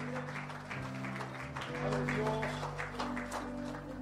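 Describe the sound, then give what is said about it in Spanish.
A church audience claps steadily for several seconds, giving applause to Christ, a dense patter of many hands over sustained held keyboard or organ tones, growing slightly louder midway. “Hay una mano aquí, levante su mano, dale un aplauso a Cristo.”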